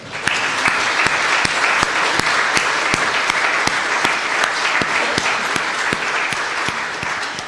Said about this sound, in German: Danke, dass Sie diesen Gottesdienst so schön mitgestaltet haben. Ich finde eigentlich, ein Applaus ist das immer wert.